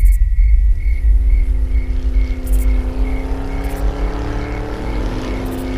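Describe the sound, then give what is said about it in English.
A van's engine rumbles loudly, its deep drone rising in pitch as it approaches, with a steady chirping of insects pulsing faintly in the background. “That's impossible. Not a car. A van.”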